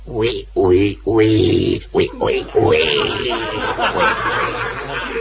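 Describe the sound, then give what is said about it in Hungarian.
A voice imitates a pig's grunting: a quick run of short, throaty grunts, then a longer, rougher snorting oink that trails off. “Mondja-e még, disznó, így szépen, hogy röf.”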